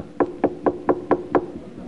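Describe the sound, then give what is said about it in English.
Six evenly spaced knocks on a wooden door, fairly loud, with a steady brisk rhythm and no voices. “When you're at their door, willing to say what you've done to them and ask them what you can do to make it right.”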